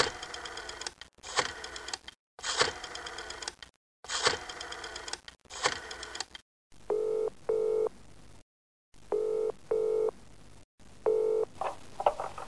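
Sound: telephone dialing and ringing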